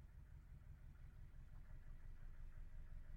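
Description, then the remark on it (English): A boat engine passes, its low, steady rumble growing slightly louder over a few seconds, heard from a boat that someone lives on. There is no talking over the quiet drone. “If you can hear, there's a boat going past.”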